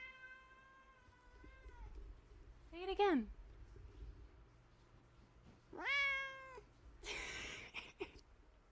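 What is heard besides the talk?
cat meowing loudly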